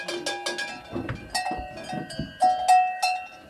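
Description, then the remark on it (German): Several cowbells with freed clappers, worn by moving cows, clang irregularly and overlapping, a busy metallic jangle with sustained ringing tones, moderately loud. No voices. “Ja, diesmal tönt's. Die Glockenklöppen sind gelöst.”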